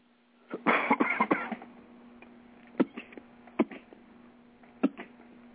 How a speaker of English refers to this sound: Jeez. Now the cat's killing you. No, that's the wonderful world of a smoker's cough.